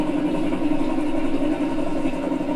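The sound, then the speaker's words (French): A small engine with few cylinders idles steadily, its low, even chugging carrying a faint popping pulse throughout, loud and continuous with no voices. “Pop, pop, pop, pop, c'est le nombre, si vous voulez, quand ça fait ça, c'est qu'il n'y a pas beaucoup de cylindres.”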